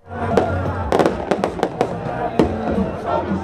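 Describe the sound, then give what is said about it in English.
Sharp fireworks bursts crack out in an irregular series, several in quick succession, over a steady roar of an outdoor crowd cheering, at celebrations outside the Brazilian president-elect's home in Rio de Janeiro after his runoff election victory. “Those are fireworks, celebrations outside the president-elect's home in Rio de Janeiro, and those celebrations continue deep into the night after the retired army captain sailed to victory in yesterday's runoff election.”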